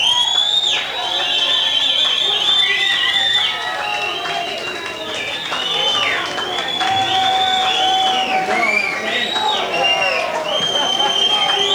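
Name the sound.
crowd cheering and clapping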